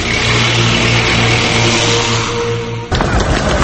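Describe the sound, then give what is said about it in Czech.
Armored personnel carriers of the Yugoslav People's Army rumble past on the Brotherhood and Unity highway through Belgrade as they leave the capital, a loud, steady low engine drone with a humming tone. Near the end the sound shifts abruptly to a rougher, clattering roar. “na delu autoputa Bratstvo jedinstvo kroz Beograd uočen je veći pokret oklopno-transportnih jedinica Jugoslovenske narodne armije”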